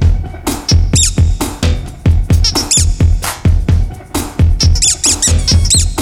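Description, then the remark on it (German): A rubber duck squeaks over and over in quick, rhythmic squeezes, loud, its high wheezy squeals rising and falling with each press and no talking. “Na, ein paar kleine Härchen an der Quietsche-Ente werden erstmal entfernt. Quietschen muss es”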